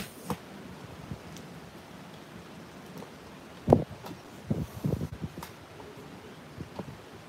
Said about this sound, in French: Il y a du vent, mais bon, c'est bon.